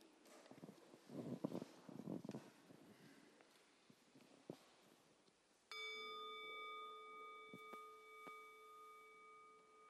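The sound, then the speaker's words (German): A singing bowl is struck once as a signal for the group to become quiet before a prayer, ringing with a steady, shimmering tone that slowly fades, preceded by soft rustling and shuffling movement. “Wir hören jetzt den Gong der Klangschale und ihr achtet mal darauf, wie lange ihr ihn hört, und dann sind wir ganz ruhig,”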